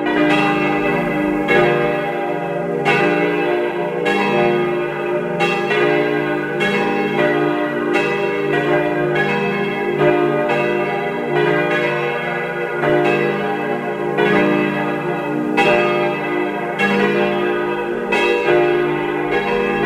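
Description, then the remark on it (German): Several bells of the parish church of Saints Stephanus and Anna in Karres, Tyrol, peal together at 12 noon in a loud, continuous cascade, overlapping strikes arriving in a steady rhythm with rich, lingering resonance and no voices. “Sie hören die Glocken der Pfarrkirche zu den heiligen Stephanus und Anna in Karres in Tirol.”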